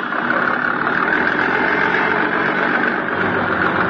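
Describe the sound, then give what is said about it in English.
A motorboat engine runs with a steady, loud drone as the boat shoves off from the waterfront, its rough rumble holding constant throughout with no voices over it. “My boat was all ready, so I went aboard and shoved off.”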